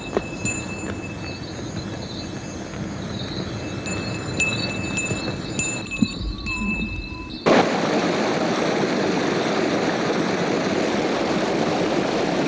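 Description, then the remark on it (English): Steady rushing water from a mountain stream where a father and son travelling with a horse stop to rest around 4 p.m., a broad continuous wash that starts abruptly partway through after quieter outdoor ambience with high thin tones, fairly loud, with no voices. “It is not until 4 p.m. that father and son find water over here side.”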